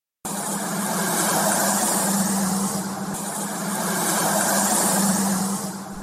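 A convoy of cars drives steadily along narrow, broken roads after passing through Kharkiv, a continuous engine and tire roar with a low hum that swells and eases slightly, no voices.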